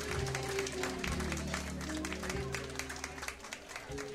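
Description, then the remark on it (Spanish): An audience applauds steadily for a son singer after his song, a dense wash of clapping that holds at a fairly loud level before thinning slightly toward the end, with low sustained tones from music underneath. “Fuerte aplauso para el rey del son,”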